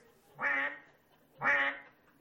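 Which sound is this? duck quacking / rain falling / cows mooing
duck quacking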